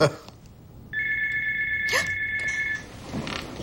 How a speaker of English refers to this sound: The mother gets up to answer the phone.